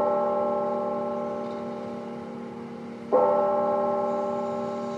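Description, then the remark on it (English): A church bell in Chattanooga, Tennessee rings late in the afternoon, one of several churches and chapels chiming five times. It rings out with a long, resonant hum that slowly fades before a second strike at about three seconds renews the tone, moderately loud and heard alone with no voices. “Late this afternoon, several churches and chapels rang their bells. They chimed five times, one for each of the military service members who died in the shootings.”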